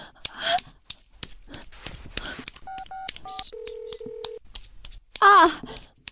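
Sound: phone dialing tones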